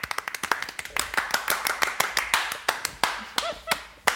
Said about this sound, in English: You know, on a side note about the clapping, I remember when we first did Superhero Roundup